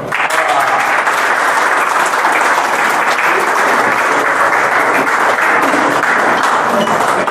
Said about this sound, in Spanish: Muchachos, yo creo que lo que menos se merece al profesor Gerson y al doctor Pedro Sucre es un fuerte aplauso.